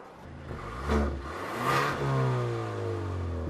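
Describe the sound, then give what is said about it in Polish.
A sports car with four round exhaust outlets fires up with a sharp burst, then revs twice in rising, throaty surges before settling into a steady, rumbling idle, recorded close to the exhaust with no talking. “Słuchaj, no jeśli to jest sugestia, żebym odpalił, proszę bardzo, czuwaj przy rurze wydechowej, ja włączam.”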